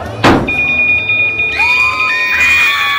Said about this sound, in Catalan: Mireu, al costat del restaurant, un home ha caigut del terra del damunt d'aquell cotxe patrulla.